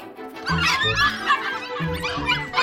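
Small dogs yap and yelp excitedly in a busy, overlapping jumble, like puppies at play, loud throughout with a few squeaky, giggly-sounding cries mixed in.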